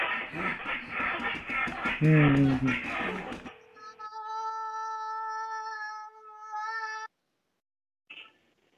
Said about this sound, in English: You can ignore that. That was my cat.